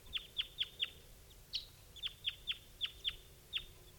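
A wild male bird chitters as it approaches, in a quick series of about ten sharp, high-pitched notes, evenly spaced with a brief pause midway, over faint low background noise and no talking.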